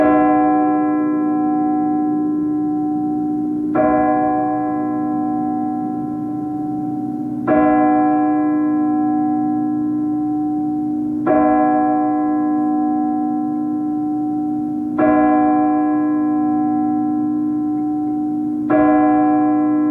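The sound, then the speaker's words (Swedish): A clock bell strikes twelve with slow, evenly spaced strokes every few seconds, each deep, resonant chime ringing on and humming steadily into the next, with no voices. “Klockan slår 12.”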